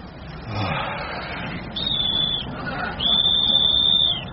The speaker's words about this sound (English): That sounds like a police whistle.